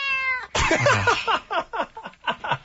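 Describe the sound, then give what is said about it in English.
A cat meows loudly, one drawn-out cry followed by a quick, rhythmic run of short, rising meows with no talking. “They need to make that cat digital.”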